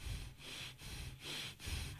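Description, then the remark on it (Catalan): Continuous connected breathing in a quick steady rhythm, each inhale flowing straight into the exhale with no pause between, about four full breaths in two seconds, with no talking. “Aquestes serien les respiracions connectades.”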